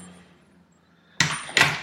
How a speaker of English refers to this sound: Open the main door. Close the screen door. Just lock it for security. Close the main door.